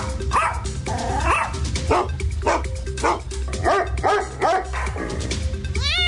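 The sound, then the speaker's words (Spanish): A dog barks repeatedly in a quick, steady string of about ten mid-pitched woofs, ending with a short high yip or whine, over a constant low background hum. “Estimados ocupantes del vehículo, el siguiente mensaje va dirigido a los pasajeros de cuatro patitas.”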